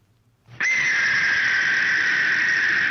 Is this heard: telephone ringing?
no